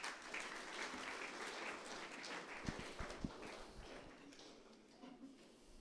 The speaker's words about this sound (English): Thank you, guys. Let's give them a clap offering.